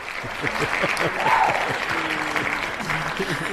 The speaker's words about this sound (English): I wanted to do an applause, but now let me try to do this. Let me try to do this.